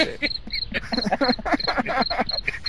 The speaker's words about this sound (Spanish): Ponte los grillos ahí, John.